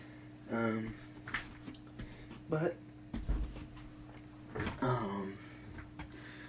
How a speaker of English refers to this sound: Let me actually just make sure that this door is closed real quick, because people are sleeping right now.